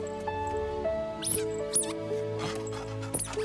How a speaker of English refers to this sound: He plays with the squeaky carrot.